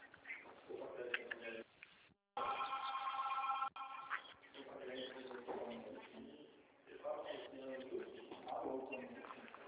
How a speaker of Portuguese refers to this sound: Não sei se a senhora está escutando de fundo, o telefone está tocando toda hora. Estou ouvindo. É muita gente ligando.